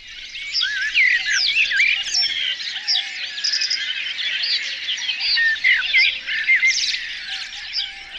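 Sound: birds singing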